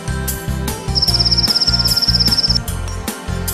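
A cricket chirps in a rapid, even trill lasting about a second and a half, riding above loud, thumping background music with a steady beat.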